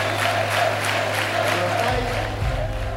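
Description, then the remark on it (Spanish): A large crowd of fans in the city's Plaza Mayor applauds steadily with scattered cheers for the club's majority shareholder Toni Bonet, celebrating promotion to the Segunda División; a dense, continuous wash of clapping fills the space throughout, with a low hum underneath. “Los aplausos y vítores de la afición hacia Bonet en la Plaza Mayor de la ciudad no sirvieron para que el máximo accionista del club disfrutara por fin de su éxito en segunda.”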